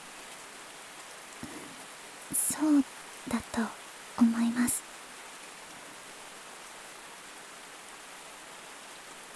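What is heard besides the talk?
rain falling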